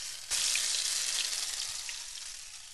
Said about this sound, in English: So I'm pouring a couple tablespoons of oil into a medium heavy-bottomed pan, but we do want it to get pretty hot. You want the latkes to go in there and really sizzle.